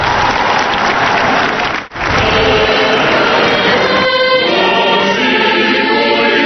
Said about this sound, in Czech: Un aplauso.